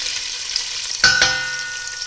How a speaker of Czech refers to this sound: Teďko rozpálíme sádlo, přidáme špek do hrnce.